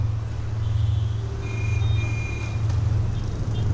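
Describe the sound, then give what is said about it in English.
Dense late-afternoon motorbike and car traffic in Ho Chi Minh City, Vietnam, on the route from the airport to a hotel, fills the street with a steady engine drone, while scattered short high-pitched horn beeps sound over it. No one speaks. “It takes an hour to wend our way the 7 kilometers from the airport to the hotel in the late afternoon traffic.”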